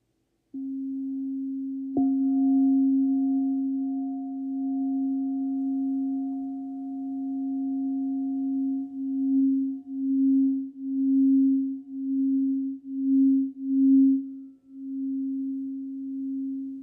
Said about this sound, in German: Genau, und dann noch eine Kristallklangschale. Genau, das ist jetzt zum Beispiel eine von meinem Set. Das ist mit Tigerauge zusammen. Also da ist Tigerauge außen nochmal draufgebracht.